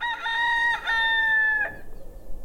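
A rooster lets out one loud crow lasting under two seconds, its voice breaking near the end, followed by faint, soft clucking from hens.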